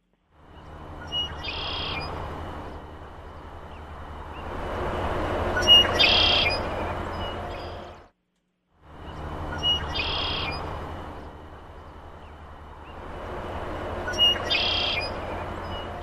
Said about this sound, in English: Okay, well, this one might not be quite as common, but it's very common in Lemon Creek. It's the red-winged blackbird. All right, let's take a listen.